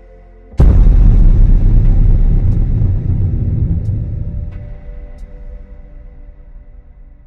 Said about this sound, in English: My moment of revelry is broken by a loud noise. It sounds like a crack of thunder, only more echoing. Not right in some way.